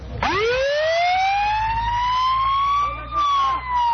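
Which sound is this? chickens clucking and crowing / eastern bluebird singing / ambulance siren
ambulance siren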